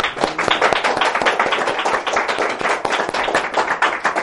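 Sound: audience clapping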